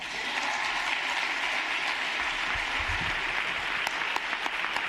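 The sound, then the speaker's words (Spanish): Steady, dense audience applause fills the whole stretch at an even, loud level, a continuous wash of many hands clapping with a few sharper individual claps standing out near the end, as Albert Rivera finishes his farewell speech at a lectern and applauds the audience back. “Pues hasta aquí las palabras de Albert Rivera, que dobla sus folios, baja los micrófonos del atril, aplaude a los que le aplauden y hace mutis por el foro.”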